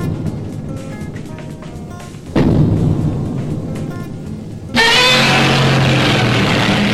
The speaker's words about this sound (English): Now there's a sound from film history. Godzilla, hundreds of feet tall, stomping, roaring, swinging that tail. Maybe he's taking out Tokyo. Maybe he's battling another monster. He's always colossal.